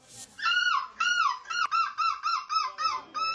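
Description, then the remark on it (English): A man who won a seagull-screeching championship in Belgium imitates a seagull, letting out about nine loud, nasal screeching calls in quick succession, the first one drawn out and the rest shorter and choppier, clear with no other talking. “Yeah, he won the Crown's new seagull screeching champion in Belgium.”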